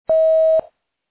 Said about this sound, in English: So the person you are trying to reach is on the phone. Leave your message at the tone. Press pound when finished.